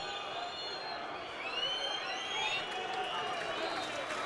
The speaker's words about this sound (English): Anyway, still about a minute to go, so I won't tempt Lady Fate. Crowd whistling for the final whistle.